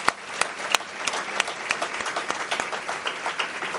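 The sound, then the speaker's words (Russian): Steady applause from a large audience in a full hall, a dense wash of many hands clapping at once with a few sharper claps standing out, no voices on top. “Прежде всего, аплодисменты вам за то, что вы пришли.”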